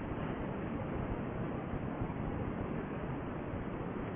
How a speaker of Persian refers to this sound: شما یه آبشار از این رفته فرض کنید که چند کیلومتر وسعتش داره اینجور ریزش میبینیم، یه ترشوی کوچولوش چقدر در مقابل این عظمت این آبشون.